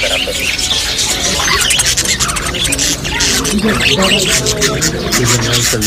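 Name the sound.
parrots squawking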